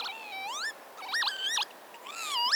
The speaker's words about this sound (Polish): Posłuchajmy. Czajka zamieszkująca okoliczne trawy.